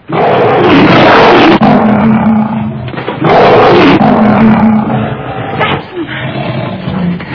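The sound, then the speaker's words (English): A young lion roars loudly, two long, rough bellows each lasting about three seconds, separated by a brief pause, with a rumbling growl trailing off at the end. “So this is the scene where Samson comes in contact with the lion.”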